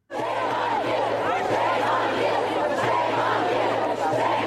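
crowd, students shouting

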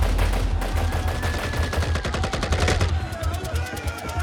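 sound effect, gunfire

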